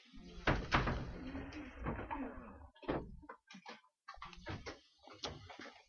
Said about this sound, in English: Want to shut the door for us, please?